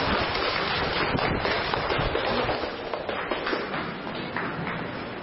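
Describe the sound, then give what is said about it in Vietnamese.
A crowd applauds steadily, a dense wash of many hands clapping that holds at an even, fairly loud level for about five seconds, with no voices on top. “Bảo Lộc, chúng tôi một tràng pháo tay nữa thưa anh chị em.”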